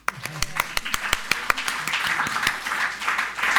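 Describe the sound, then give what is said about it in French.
An audience breaks into applause for the bands, starting with a few distinct, sharp claps that quickly swell into a dense, steady wash of clapping from a crowd, with faint voices underneath. “On les applaudit.”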